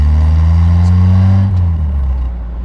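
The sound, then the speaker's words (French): A car engine hums steadily from inside the car as it is driven along a road, a loud low drone with a slight shift in pitch, no voices present. “Vous entendez certainement ce moteur qui vrombille depuis tout à l'heure. Je suis au volant sur la route, à bord d'une voiture où tout a commencé pour moi.”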